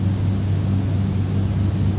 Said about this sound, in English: When sound appears when there's hearing, but is there awareness, or is it the sound of your voice and the air conditioner at the same time?